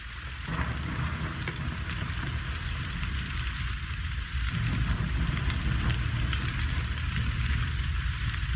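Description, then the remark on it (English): Steady heavy rain pours down in a dense, continuous hiss, with a low rumble underneath that swells slightly midway. No voices, just the constant downpour. “You may come in out of the rain if you wish.”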